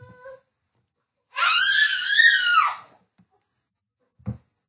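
A young child lets out a long, high-pitched scream lasting over a second, rising and wavering, loud and close, followed by a brief low thump after a pause.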